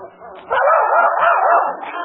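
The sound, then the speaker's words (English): A boy imitates a dog, letting out loud, continuous barking and yipping that starts after a brief quiet moment and carries on to the end. “His mind is snapping. Now he thinks he's a dog.”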